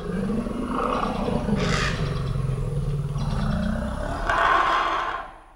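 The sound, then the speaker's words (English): A forest elephant in the Central African Republic gives a deep, sustained rumbling roar lasting several seconds, with two harsher, noisier bursts breaking through, loud with no talking. “It's a program out of Cornell University that has been recording the forest elephants in the Central African Republic for 25 years.”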